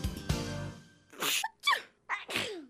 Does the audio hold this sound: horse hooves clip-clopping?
no